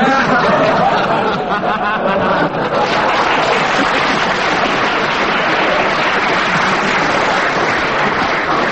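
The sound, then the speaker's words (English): A studio audience claps loudly and steadily throughout, a dense wash of applause with a few voices and bits of laughter mixed in near the start. “The applause sways me to 4 points for that,”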